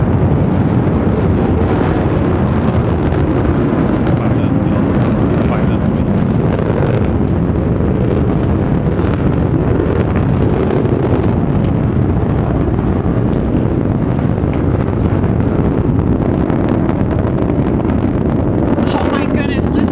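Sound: rocket engine roar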